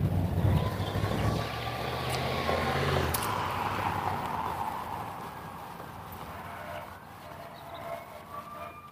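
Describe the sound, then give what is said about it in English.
A loud fire truck rumbles past with its siren wailing, the engine roar and sweeping tones fading gradually as it moves away. No one speaks. “That's a fire truck.”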